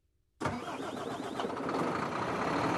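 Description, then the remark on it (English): At a truck depot in northwest Turkey, a heavy engine roars to life after a brief near-silence, settling into a loud, steady rumble of truck and vehicle noise, with no voices present. “A truck depot in northwest Turkey, just 30 miles to the west, is the frontier with the European Union.”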